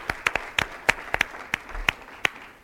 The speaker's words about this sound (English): So, tremendous job. You guys give yourselves a round of applause. Yeah, awesome job, you guys.